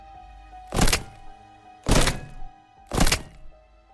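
A wrench strikes bone three times in a slow, steady rhythm, each blow a loud, dull thunk with a brief crunching edge, separated by quiet low hum and no voices.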